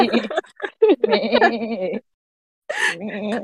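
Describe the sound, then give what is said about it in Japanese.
A person does a wavering, nasal goat bleat, a few quavering bursts, then a short pause before a second shorter bleat-like call. “急なヤギの鳴き声入れんと。”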